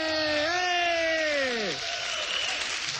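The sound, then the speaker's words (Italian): The audience packing Sala A, at a Planet Rock event, applauds in a steady, dense wash of clapping that runs throughout, while a loud voice calls out over it for the first half, its pitch sliding down before fading. “L'applauso del pubblico che gremisce di nuovo la sala A.”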